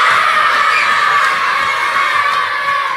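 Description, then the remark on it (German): A crowd of children loudly croaks like the Frog King at the end of a fairy-tale theatre show, a dense, continuous chorus of high, raspy voices sustained throughout with a few shouts poking through. “Mittlerweile ist aus dem Frosch ein schöner Prinz geworden, das Märchen ist zu Ende und die Kinder dürfen noch mal so richtig laut quaken wie der Froschkönig.”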